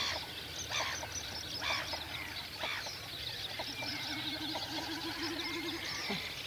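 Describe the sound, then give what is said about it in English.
Black-headed gulls call steadily from a raft on a lake, harsh squawking cries repeating over a dense, busy chorus of other birds, with no voices and a constant outdoor background. “And you can hear the black-headed gulls on the raft as well.”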